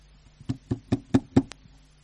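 Five firm knocks on a door in a quick, even rhythm, each a dull thud with a sharp edge, fairly loud, followed by a brief higher click.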